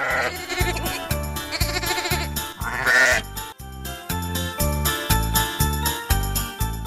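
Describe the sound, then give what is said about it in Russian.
Sheep bleating with wavering, quavering calls over a loud, steady rhythmic beat and bright musical backing, with light tinkling tones mixed in; no one speaks. “Кстати, об овцах и сюрпризах.”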